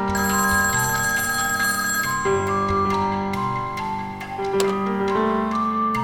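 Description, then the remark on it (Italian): A telephone rings steadily and loudly for several seconds at the Sutter home at 9:34 on the morning of Friday 7 May, its bright metallic tone continuous with no pauses, shifting slightly in pitch partway through. No one speaks. “Il mattino dopo, venerdì 7 maggio, alle 9.34 a casa Sutter arriva una telefonata.”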